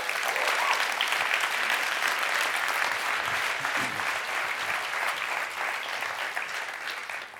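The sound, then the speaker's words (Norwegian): Sustained applause from an audience for Knut Iland, a dense steady wash of many hands clapping at fairly constant loudness, tapering slightly toward the end, with no voices standing out. “Kan vi gi Knut en god klapp?”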